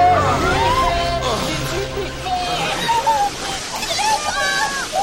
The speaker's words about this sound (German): Und jetzt wird auch der Wind noch stärker. Oh, bei allen Wasserfontänen, das sind ja riesige Wellen.